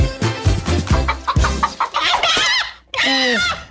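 Hens cluck in quick, choppy bursts, then a rooster lets out a loud, drawn-out crow that rises and wavers, with the clucking still mixed in.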